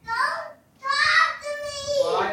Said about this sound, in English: I am sitting down the hall from my kids who are yelling in the background. This is me, hiding from my family as my two daughters get ready for bed.